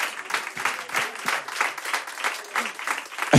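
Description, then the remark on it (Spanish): An audience applauds steadily for a few seconds, a dense wash of many hands clapping at once, moderately loud, with no one speaking over it. “Un aplauso”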